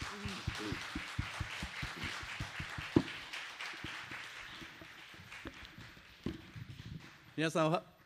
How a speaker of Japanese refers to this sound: それでは早速先生を講談にお迎えして、メッセージをね、取り継いでいただきたいと思います。はい、拍手しましょうか。